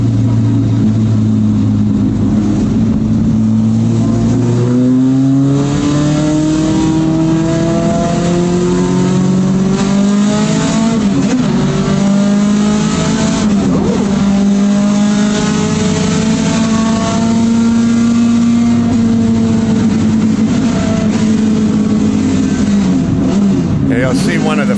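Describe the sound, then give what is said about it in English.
The engine of a small Datsun 510 race car revs hard at the start of a race and climbs through the gears, pitch rising and dropping with each shift, second and third gear sounding the same, loud for the whole stretch with a burst of extra noise near the end. “So I'm driving a 510 Datsun that I've never driven before.”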